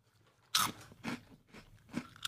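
Loud, sharp crunches of someone chewing a crispy, spicy-flavored Asian snack, about four bursts in an uneven rhythm with brief pauses between bites.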